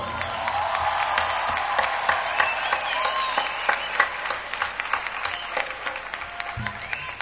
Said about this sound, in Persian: بچه ها یک دست خیلی زیبا.